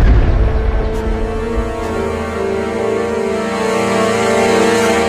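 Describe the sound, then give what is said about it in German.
A heavy, low explosion of leftover munitions that boys found and played with in a forest near Halbe bursts at the very start, then fades into a long, steady ringing drone that lingers for several seconds. No voices. “Dann geschieht das Unglück. Die Munition explodiert.”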